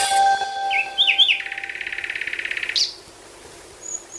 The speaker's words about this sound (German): Singen Nachtigallen anders, je nachdem, wo sie leben? Wo bauen sie am liebsten ihre Nester? Das möchte das Berliner Naturkundemuseum in einem deutschlandweiten Bürgerforschungsprojekt herausfinden.